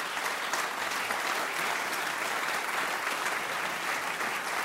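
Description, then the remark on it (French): An audience applauds the performer and the composer of a piece just played, a dense wash of many hands clapping at an even level throughout, with no voices standing out. “Je vous demande d'applaudir aussi bien l'interprète.”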